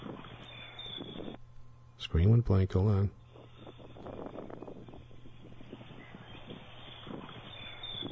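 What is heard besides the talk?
strong wind blowing outdoors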